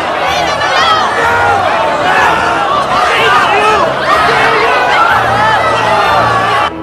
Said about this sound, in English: They're arresting him! They're arresting Eisenheim! A crowd waiting outside the theatre surge inside, brushing away a doorman.